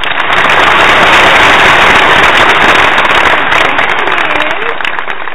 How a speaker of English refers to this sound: There it is. Hey, if you're going to clap for me, we're going to just go all out and just clap. Might as well.